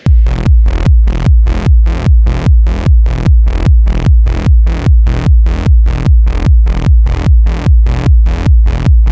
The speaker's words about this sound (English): C is for compression.